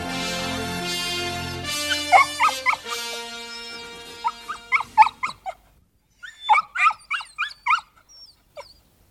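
A dog gives a run of short, high yelping barks and whimpers, about a dozen sharp bursts in quick clusters, starting under a fading sustained musical tone and then continuing alone.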